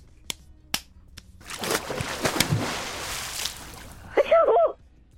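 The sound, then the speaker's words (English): A slap sound effect in the style of the Fresh Prince of Bel-Air slap: three sharp, crisp slaps crack out in quick succession, followed by a rushing, splashy wash of noise and a brief, warbling high-pitched cry at the end. “Let's do the slap.”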